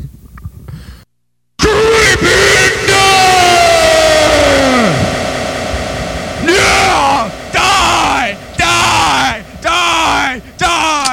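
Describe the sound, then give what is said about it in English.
Several voices scream and yell at full volume, starting with one long, wavering cry that falls in pitch, then a string of short, frantic shouts overlapping. “What the fuck is all this screaming about?”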